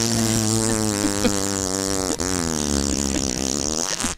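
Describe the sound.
A voice makes a long, buzzy fart imitation, a low raspy drone lasting about four seconds with a wavering pitch and a brief sputter midway before it trails off.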